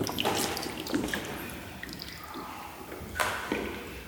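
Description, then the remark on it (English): Shallow water splashes and drips in a long cave, with scattered wet sloshes and a sharper splash near the end, over a faint steady trickle. “This water is all shallow.”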